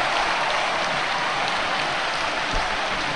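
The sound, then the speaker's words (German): A large football stadium crowd roars and applauds as Arminia scores 1:0 from a corner kick, a dense, continuous wall of noise, loud and steady throughout with no individual voices standing out. “Und ihr hört's, das hat was von Stimmung hier, ganz toll.”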